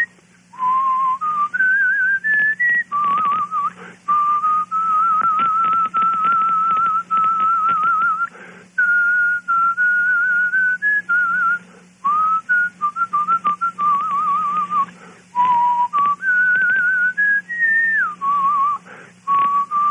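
A person whistles a melody solo, a clear tone that wavers and glides between pitches in long sustained phrases, with slight vibrato and brief pauses for breath, no talking.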